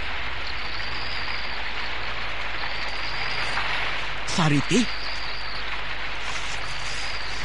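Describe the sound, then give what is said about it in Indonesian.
Heavy rain pours down in a steady, dense hiss outside a cave, filling the whole scene without a break, while a voice briefly calls out once partway through. “Seluruh tubuhnya telah dibasahi oleh hujan yang turun dengan derasnya.”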